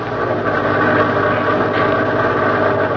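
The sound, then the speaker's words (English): A steady, loud engine drone runs continuously, a low rumbling idle with constant vibration and no breaks, from the motor of a bus carrying Jack Benny somewhere in Los Angeles. “We now pick up Jack Benny on a bus somewhere in Los Angeles.”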